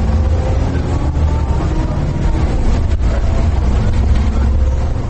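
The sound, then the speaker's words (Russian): A city bus engine drones steadily from inside the cabin during a morning ride around 7:30, a loud, continuous low rumble with road noise that holds constant throughout, no talking audible. “Это сам автобус.”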